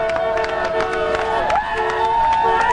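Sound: street crowd cheering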